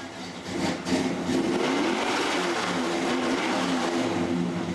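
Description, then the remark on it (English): A stripped-down Chevelle muscle car engine throbs at a steady idle in a shop, where the car sits ready for restoration; its deep, rumbling tone stays loud for several seconds with a slight swell early on. “Today, the lean, stripped-down Chevelle, its engine throbbing, sits in the shop ready for restoration.”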